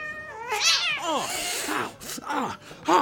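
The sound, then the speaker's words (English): A cat yowls and meows in a drawn-out, wavering caterwaul, several harmonic cries rising and falling across a few seconds, loud, with no talking. “Even the cats are mean here.”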